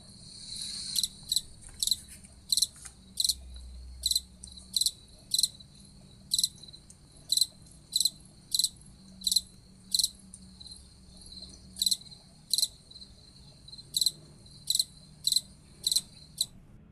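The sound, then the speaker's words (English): An April Chirper cricket sings, chirping steadily in clear, evenly spaced bursts, roughly one per second, high-pitched, over a quiet low background hum. “I have a feeling by now, by the third passage, you would have guessed that was a cricket. This is called the April Chirper, and we're going to listen to the April Chirper song one more time.”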